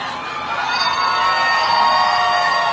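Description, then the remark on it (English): A crowd cheers and whoops loudly, a dense wall of shouts and yells that swells after a moment and stays at full volume throughout, with no single voice standing out. “I know we're a small, quiet crowd here.”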